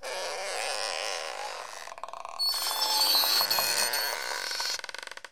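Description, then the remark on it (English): Loud, drawn-out creaking of nine doors, a rasping, groaning squeal in two long stretches with a brief dip between, ending in a stuttering rattle. No one speaks. “9 doors a creaking.”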